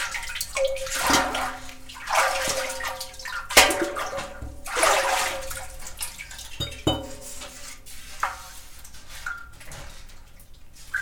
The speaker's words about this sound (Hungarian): Egy gémes kútnál vagyunk, és Tamás megpróbálja megcsobogtatni a vizet